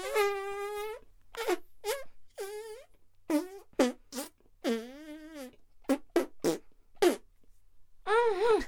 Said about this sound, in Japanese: 何をしてもおならが出ちゃうから、なんだか恥ずかしいな。